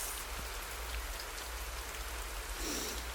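Steady rain falls continuously, a dense even hiss of drops spattering on surfaces, with a faint low rumble underneath and no voices.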